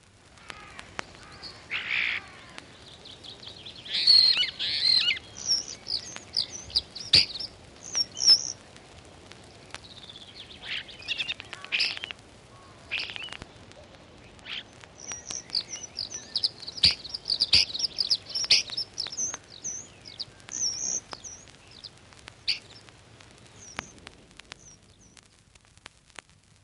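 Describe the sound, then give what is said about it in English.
A starling sings a long, rambling stream of whistles, chirps, clicks and rattling notes, continuous, over a faint low background hiss. “Starling song.”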